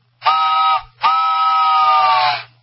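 A locomotive train whistle sounds two loud, steady blasts, a short one followed by a longer one, with a rich harmonic tone that sags slightly in pitch at the end.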